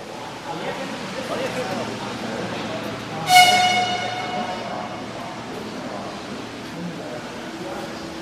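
A busy train station, Prague's main station, on a Friday morning as chess players gather for a chess train tournament, with murmuring crowd noise throughout; around three seconds in, a loud, sharp whistle or horn blast rings out with bright overtones, then fades into the steady rumble and chatter.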